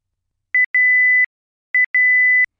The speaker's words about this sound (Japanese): ブザーが鳴ったら切りタイマー調理が終了、加熱が止まります。